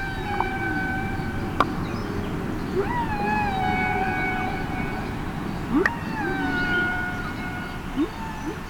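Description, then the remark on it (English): A whale call sound effect for Henry the Hudson Whale: long, eerie calls moan and glide in pitch over a steady low rumble of water noise, with a few brief clicks scattered between the drawn-out tones. “Read stories about the Hudson River to our friend Henry the Hudson Whale”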